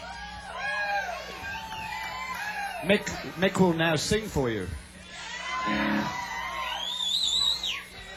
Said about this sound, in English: so I don't know what you're cheering about.